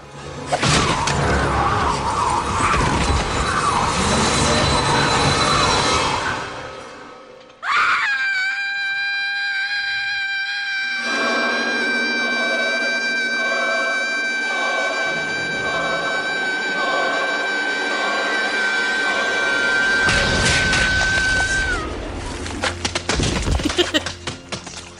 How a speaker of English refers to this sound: Gushy exploding heads. Yep. So Buffy's scream kills the gentleman. Their heads explode, as we just heard.